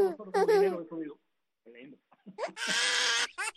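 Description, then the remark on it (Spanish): A voice gives stifled, bleating sobs, like a baby crying: a whimpering burst, a short pause with faint sniffles, then a longer, strained wail that breaks off. “Eso es un llanto reprimido, pero ahí está.”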